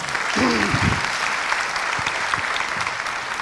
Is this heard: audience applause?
yes